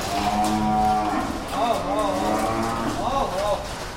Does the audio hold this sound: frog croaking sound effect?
no